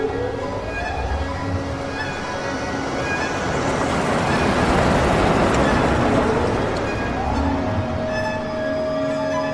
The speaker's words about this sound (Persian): به بهرام که با ماشین از حیاط خونه خارج میشه نگاه میکنه